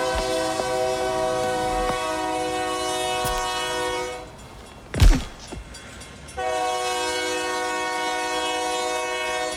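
A train horn blares in two long, loud sustained blasts, broken by a short gap with a sharp rushing clatter as the train passes. No one speaks.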